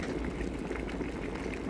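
Water boiling in an electric kettle, a steady rumbling roar with bubbling hiss that holds even and continuous throughout, with no voices.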